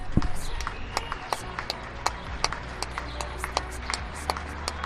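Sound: people applauding from balconies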